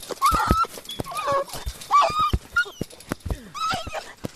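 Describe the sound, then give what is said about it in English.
A small white dog yelps and whimpers in high, strained cries while soldiers club it with their rifles, a flurry of sharp thumps and scuffles with no one speaking. “A small white dog sniffs the ground looking for food.”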